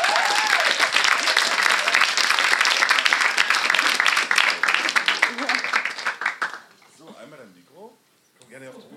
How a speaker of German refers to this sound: Ja, einmal großen Applaus bitte.